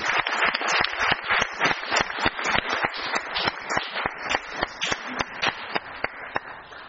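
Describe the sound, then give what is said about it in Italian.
A group applauds for Sara Curtis, with steady, dense clapping that runs for about seven seconds at an even level. Sharp individual claps stand out in the crackling wash, and no one speaks. “Un applauso anche a Sara.”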